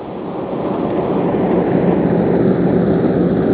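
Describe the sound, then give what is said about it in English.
A train rumbles past in a steady, fairly loud roar that swells slightly in the first second, then holds as a continuous, even drone with no voices. “it's a train.”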